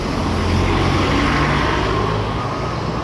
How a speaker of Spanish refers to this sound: Pasan los colectivos.